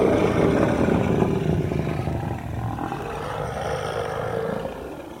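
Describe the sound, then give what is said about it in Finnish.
A tiger, Battle Cat (taistelutiikeri), lets out a deep, rumbling roar while pulling someone out of a swamp with a rope. The roar stays loud and is sustained for several seconds with a slight waver before easing off at the end. No one speaks over it. “Pidä nyt kiinni. Vedä taistelutiikeri.”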